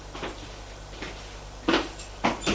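A glass double door being handled: a few soft rattles, then two sharper clunks as it swings open, over a faint steady hum.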